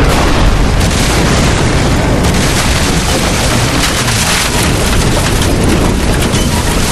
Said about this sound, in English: He crouched, facing away from the blasts, ducked his head, and once again hit the remote detonator's boom button. The massive prison door blew off its hinges and slammed into the bridge's decorative columns.